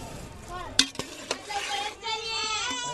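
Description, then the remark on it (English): A pot of amla fruit in boiling water with citric acid and salt bubbles and sizzles over a fire that a woman blows on to keep it going, with a few sharp clanks of a utensil against the pot and faint voices in the background. “She blows on the fire to keep it going and keep the amla cooking.”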